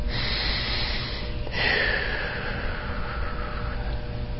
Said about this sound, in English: As we breathe in, and then we breathe out.